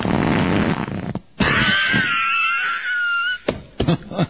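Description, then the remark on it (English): A loud fart sound effect played from a soundboard stretches for about two seconds as a squeaky, wavering raspberry, preceded by a burst of rough noise and followed by a few short choppy sounds. “You want to hear a fart sound?”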